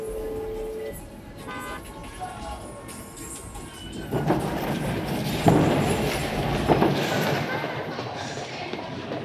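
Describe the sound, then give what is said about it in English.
A subway train rumbles and screeches through a station, with a couple of high tonal horn-like notes early on, then a louder roar of rolling wheels and brakes building toward the end. “Sorry, gotta run. Subway.”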